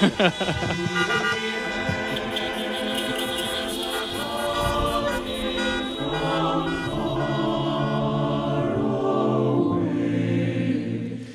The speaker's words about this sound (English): instead of clapping, the audience honks in applause.